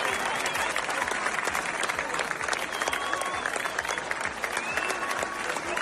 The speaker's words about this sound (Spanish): En Plasencia y Hervás, decenas de vecinos han despedido con aplausos y mucha emoción a los equipos de extinción y a los voluntarios que han combatido las llamas en la región.